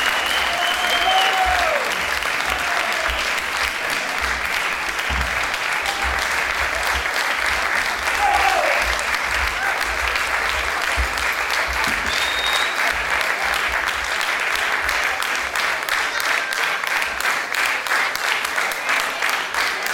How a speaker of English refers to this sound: This was our concluding performance from the Winter Festival Tour. We're very honored to do it here in Houston and to be part of this, to be here to perform for you tonight. Please give another round of applause for the wonderful audience.